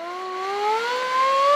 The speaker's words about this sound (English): That's the siren on a fire truck that was actually at the 1915 PPIE.